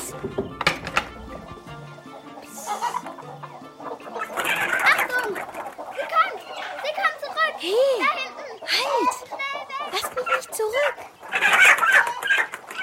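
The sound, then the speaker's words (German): Hens cluck and squawk in a henhouse, a busy run of short rising and falling calls. Some rustling and clatter sit close by, and faint voices may be mixed in. “Na nun, wer ist denn da bei meinen Hühnern?”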